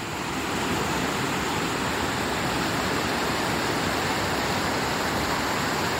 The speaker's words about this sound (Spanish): el sonido al caer el agua por el río Tajo a su paso por esta ciudad hacía como prácticamente simulaba el sonido del mar, y se la conoce como la cascada de las castañuelas. Como no podemos ir, lo que sí podemos hacer es escucharla.